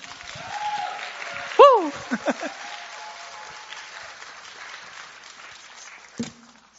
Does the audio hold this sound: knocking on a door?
no